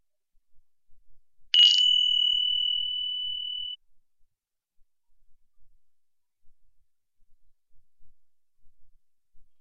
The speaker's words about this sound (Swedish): Det kommer att ringa en klocka när övningen ska börjas. Och när den ska avslutas.